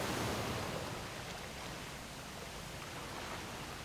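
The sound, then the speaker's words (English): A steady, dense rush of water roars without a break, a broad churning wash as water pours through the window openings into a box simulating an aircraft cabin during a mock ditching, with no voices. “Water is now pouring into the cabin through the window's openings.”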